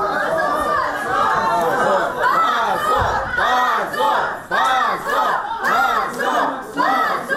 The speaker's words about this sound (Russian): Десятки человек, среди которых были родители, друзья подсудимых, а также группа активистов, приехавшая накануне из Москвы, встретила такое решение криками «Позор! Свободу политзаключенным!».